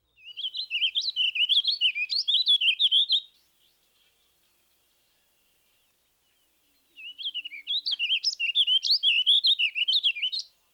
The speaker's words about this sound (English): No, it isn't a house finch or a purple finch. This drab-looking character with the sound-alike song is the warbling vireo. The song is much like the purple finch, but less lively. Listen to the warbling vireo's evenly measured tempo.